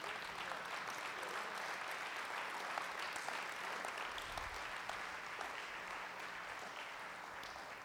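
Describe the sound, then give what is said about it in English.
A crowd stands and gives the Lord a hand clap, dense, sustained hand clapping, a steady wash of many overlapping claps that holds an even loudness throughout without pause. “Stand to your feet and give the Lord a hand clap, because He always works.”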